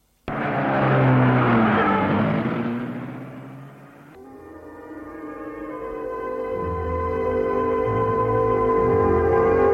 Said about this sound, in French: Cyril sourit et la voiture démarre.